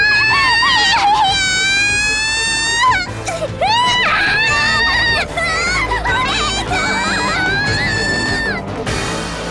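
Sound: loud screaming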